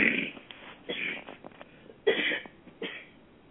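A person coughs about four times in short, harsh bursts with uneven pauses between them. The coughs are moderately loud, with no other voices around them.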